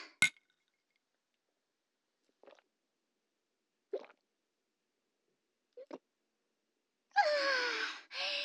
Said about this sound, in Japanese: じゃあとりあえず乾杯しよっか。今日もお疲れ様。